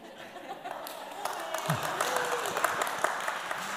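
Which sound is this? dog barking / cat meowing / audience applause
audience applause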